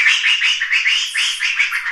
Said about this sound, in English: So here, for example, is what an upset monkey sounds like.